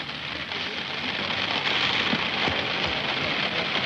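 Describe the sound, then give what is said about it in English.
Heavy rain pours down steadily as a dense, even hiss, with scattered drops pattering on a hard surface and no pause throughout, falling hard enough that press cameras cannot work without shelter. “They have to, because of the cameras really cannot work without shelter in this rain, although one man is doing his best.”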